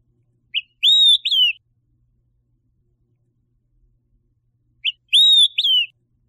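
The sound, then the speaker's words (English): A bird in an aviary whistles a bright three-note 'quick three beers' phrase, a short lead-in note followed by two slurred, ringing whistles, repeated twice about four seconds apart with silence between, clear. “Quick three beers. I do think we have one of those on our aviary.”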